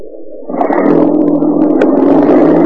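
A police radio patrol car's engine revs up suddenly and then holds a steady, loud rumble as the car pulls away, with no voices over it.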